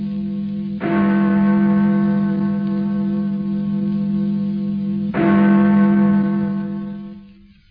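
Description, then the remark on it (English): A church bell tolls twice, about four seconds apart, each deep, loud strike ringing on in a long, humming resonance that barely fades before the next. No voices accompany it. “And therefore, never send to know for whom the bell tolls. It tolls for thee.”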